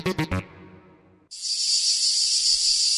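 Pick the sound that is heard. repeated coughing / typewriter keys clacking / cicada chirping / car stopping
cicada chirping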